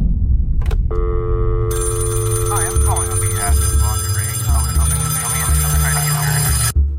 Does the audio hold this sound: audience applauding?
no